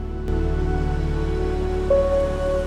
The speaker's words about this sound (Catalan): A càmera lenta, vista de diversos carrers de la ciutat. Fosqueja i la pluja mulla els carrers.